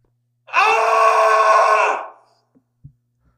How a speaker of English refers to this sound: There was a scream that pierced the morning air.